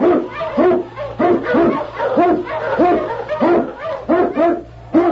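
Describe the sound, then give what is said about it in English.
King, an Eskimo lead sled dog in The Challenge of the Yukon, barks loudly, a rapid string of a dozen or so sharp barks in steady rhythm over a faint low drone. “King, the swiftest, strongest of Eskimo lead dogs, blazes the trail through storm and snow for Sergeant Preston as he meets the Challenge of the Yukon.”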